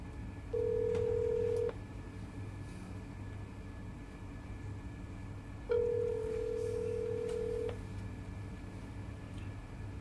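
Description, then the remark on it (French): Two long, steady ringback tones from a telephone line as a call is placed, separated by a few seconds of silence, play over a constant low background rumble. No one speaks. “Ok, je l'appelle.”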